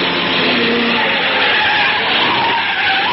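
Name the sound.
car skidding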